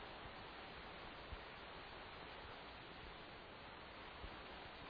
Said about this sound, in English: to hear the sound of the river should be free.